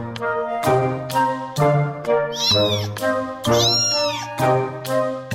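A cat meows repeatedly and loudly up close, a steady series of drawn-out, wavering cries with short breaks between them, no voices around.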